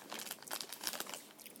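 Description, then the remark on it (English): Irregular crinkling and rustling of plastic packaging as a dog noses around in it, a quick run of soft crackly bursts, fairly quiet, with no voices. “Hey, get your nose out of there, you big dog.”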